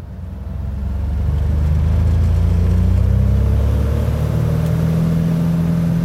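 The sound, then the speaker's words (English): A small, rickety Cessna propeller plane's engine drones loudly as it climbs out of a local airport in West Virginia, swelling over the first second into a steady low roar whose pitch creeps slightly upward, with no voices. “Tom is the proud owner of a rickety Cessna plane.”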